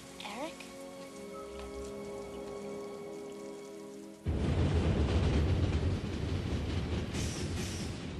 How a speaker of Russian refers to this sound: Я хочу, чтобы дождь перестал лить. Дождь не может идти вечно.